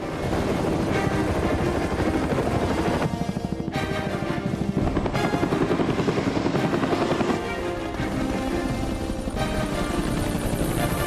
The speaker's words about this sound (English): The three helicopters come to a stationary hover.